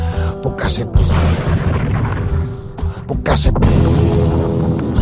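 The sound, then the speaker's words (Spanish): A loud, booming explosion of an underground gas pipe beneath an oil refinery in Texas, set off by a spark, with a heavy low rumble that rolls on for several seconds, broken by sharper crackling bursts near the start and middle. “La explosión se oyó en todo Texas.”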